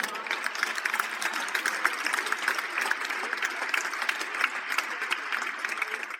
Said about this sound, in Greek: Είπαμε, παιδιά, είπαμε. Λίγο υπερβολικό το βλέπω όλο αυτό το πράγμα. Λίγο πιο ήπια τα χειροκροτήματα, σας παρακαλώ πολύ.